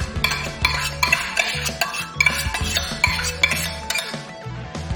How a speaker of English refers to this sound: So the quinoa is pretty much cooked now. And as you can see, if I look in here, there's no moisture left. So we're just going to spoon that in to the salad, just like that.